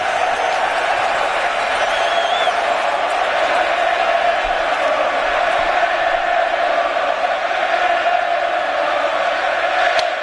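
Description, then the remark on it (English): A packed, standing-room-only stadium crowd jeers pitcher Johnny Cueto in a steady, unbroken roar of massed voices, loud and constant for the whole stretch with no single speaker standing out. “Well, the standing room only crowd trying to get under Johnny Cueto's skin, and they might be.”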